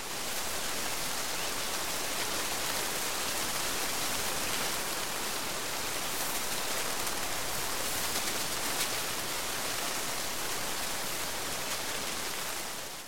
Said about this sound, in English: So that's the sound of butterflies flapping their wings in the sun.